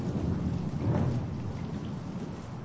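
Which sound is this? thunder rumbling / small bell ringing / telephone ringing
thunder rumbling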